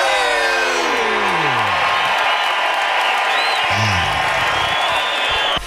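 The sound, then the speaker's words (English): A small group cheers and whoops loudly together after chanting "one more sleep" three times, voices overlapping in a sustained burst of excited shouting with rising and falling yells, continuous for several seconds. “We chant that three times and we cheer.”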